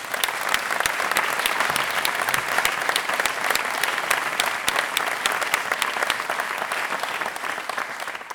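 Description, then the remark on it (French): An audience applauds the event's partners steadily for several seconds, a dense, even wash of many hands clapping at once with sharp individual claps poking through, holding at a fairly constant loudness throughout. “On peut les applaudir.”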